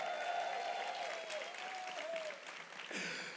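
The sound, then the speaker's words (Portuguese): A burst of clapping from a small group, given for the speaker's visiting mother, dense and steady for a few seconds, with a faint whistle-like tone threading through before the applause tapers and briefly swells again. “E aí a minha mãe está me visitando, aqui já, salva de palmas para minha mãe.”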